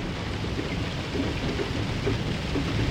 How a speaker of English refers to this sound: The rain thickened as the train sped yet further north. The windows were now a solid, shimmering grey, which gradually darkened until lanterns flickered into life all along the corridors and over the luggage racks. The train rattled